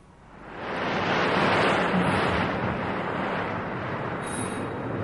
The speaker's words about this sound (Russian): В это время поднялся страшный ураган. Море вспенилось и вышло из берегов.